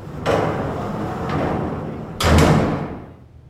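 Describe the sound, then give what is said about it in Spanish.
A door is pulled shut as someone leaves: a soft handling rattle and faint click first, then a solid, heavy thud as it closes, ringing briefly afterward. No one speaks. “¿Me haces el favor y me cierras la puerta al salir?”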